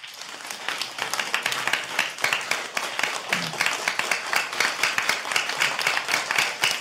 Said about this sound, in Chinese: 谢谢你，哎，这个掌声像就像最近的暴雨一样，那个。